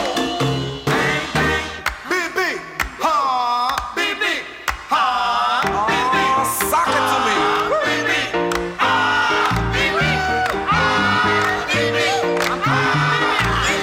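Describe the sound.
A lively Latin boogaloo song plays loudly, with a Black audience shouting back in bursts in direct reaction to the driving piano riffs over steady percussion, answering the band.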